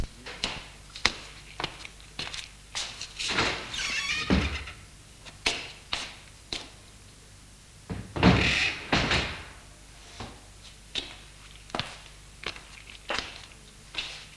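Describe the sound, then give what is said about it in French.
The glass-paned French window of a house is unlatched and swung open, with a series of sharp clicks and knocks, a sliding rush of movement, and a heavier thunk partway through, fairly clear. “Il ouvre la porte-fenêtre de la maison.”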